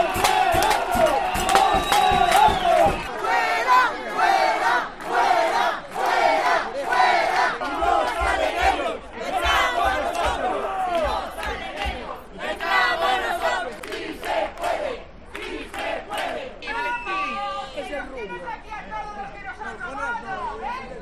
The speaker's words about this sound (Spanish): Fuera sonaron sin descanso las sartenes, las ollas y sobre todo las gargantas.